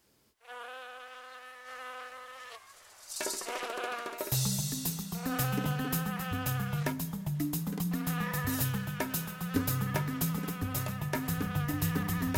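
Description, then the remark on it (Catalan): A steady mosquito buzz whines alone for about two seconds, then a noisy burst leads into loud rhythmic music with a pounding beat that carries on to the end. “Un mosquit de l'ametlla m'ha picat a l'orella, un mosquit de taüll m'ha picat a l'ull.”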